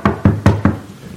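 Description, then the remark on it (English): Four quick, firm knocks on a window in an even rhythm, each one sharp, beaten back from inside the house by a sleepy, startled man, then a brief fading quiet. No voices are heard. “He was knocking back from the inside.”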